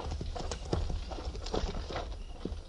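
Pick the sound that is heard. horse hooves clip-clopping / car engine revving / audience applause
horse hooves clip-clopping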